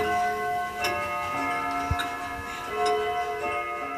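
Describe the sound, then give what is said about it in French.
At least 22 clocks ticking at once, overlapping clicks in uneven rhythms, with steady sustained chime-like tones humming underneath. No one speaks. “Au moins 22 horloges.”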